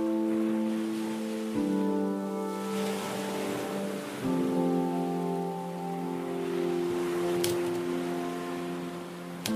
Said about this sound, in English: Ties in to the wave sound that you've been playing.